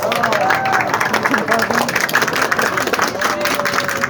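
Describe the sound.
Sustained applause from an audience fills the room, a dense steady patter of many hands clapping with crowd murmur and a few voices mixed in.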